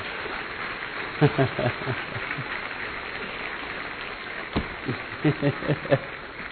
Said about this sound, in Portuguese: Vamos aplaudir o Senhor, então.